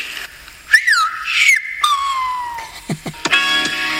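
A person whistles a short phrase in whistled speech, the pitch gliding up and down in speech-like contours, loud and close, followed by a few quick clipped notes and no talking.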